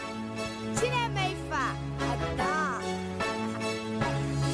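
A song's opening plays: steady sustained bass and chord tones with a wavering, melodic vocal line sliding up and down over them, continuous and fairly loud throughout.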